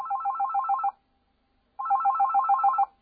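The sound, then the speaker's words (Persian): A telephone rings twice for a call-in question on a history question-and-answer program. Each ring is a warbling electronic trill lasting about a second, separated by a short pause. The rings are clear, with no voices. “اولین سوال به صورت تلفنی مطرح شده، میشنویم.”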